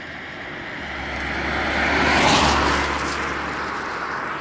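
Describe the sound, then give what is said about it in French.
A single car passes by on a road, its rushing noise swelling to a peak midway and then fading away as it recedes, with a steady low hum underneath and no voices. “Et voilà, on va dire que la voiture qui vient de passer, c'était mon joker.”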